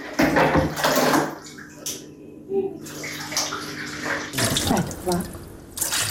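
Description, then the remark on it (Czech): Water from a canister is poured into a washing machine in loud bursts of splashing, with a steady low mechanical hum underneath and brief pauses between pours, at a home in the Kuće Rakića settlement near Tuzi, where there is no mains water. “Vode iz vodovoda nema, pa mora da je iz bidona sipa u veš mašinu.”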